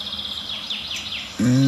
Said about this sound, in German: Das klingt eher nach Gartengrasmücke, die sauer ist, weil Neuntöter in der Nähe ist.